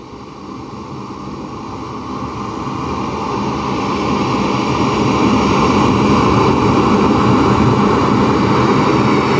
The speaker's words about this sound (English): Hey Siri, play ocean sounds. Here's … from ….